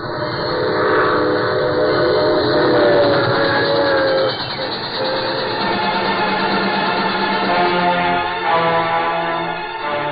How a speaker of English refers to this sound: About time. There goes the troop train.